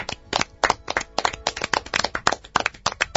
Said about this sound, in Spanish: Prepárense para aplaudir. Los seudónimos: Arriero, Avellana, Delafer, Ernest y Radio.